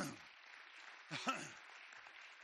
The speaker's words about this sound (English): Well, one more time, clap your hands together.